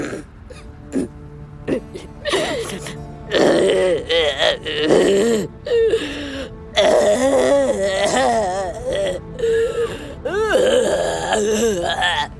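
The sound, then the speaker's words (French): A voice imitates a dinosaur crying and groaning: loud, wavering moans and sobbing wails rising and falling, with short breaks between drawn-out cries over several seconds. “Ça, les enfants, c'est un dinosaure qui pleure.”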